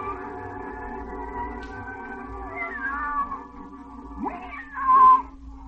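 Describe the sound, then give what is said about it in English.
Alice's cat meows twice, a drawn-out mew and then a louder rising-falling one, over a soft, steady musical background with no talking. “Alice, you see, much preferred talking to her cat than learning about history.”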